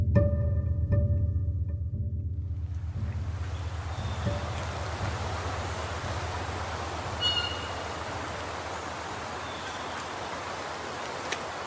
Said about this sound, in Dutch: Je hoort het riviertje de Hunze. Dit riviertje stroomt aan de rand van de gemeente Gieten in Noordoost-Drenthe. Aan de ene kant ervan ligt het zand en aan de andere kant het veen.